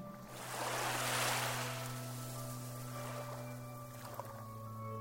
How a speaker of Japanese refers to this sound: 私のことなど気にも留めないといった表情で、寄せては返す波。